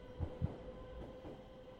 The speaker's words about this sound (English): And as a tube train thundered by, seated by the window,